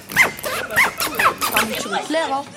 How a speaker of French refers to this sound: C'est une fermeture éclair.